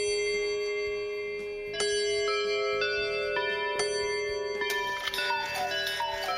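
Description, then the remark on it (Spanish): Clocks ticking beneath a series of ringing, bell-like chimes that strike every half second or so and sustain, layering into a bright, resonant wash, from a collection of over 700 clocks dated from the late 16th to early 20th century at the Monastery of San Lorenzo de El Escorial, Spain. “Nos vamos a sumergir en el monasterio de San Lorenzo del Escorial para ver los más de 700 relojes de la colección de Patrimonio Nacional, obras de arte vivas fechadas entre finales de los siglos XVI y los primeros del siglo XX”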